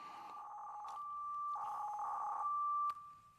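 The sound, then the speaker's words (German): A modem-like digital radio data signal, received through a software-defined radio (SDR), plays on its own: steady warbling tones around one pitch, with bursts of rapid chirping modulation, ending abruptly. No voices. “In fact, es klingt ein bisschen wie ein Modem.”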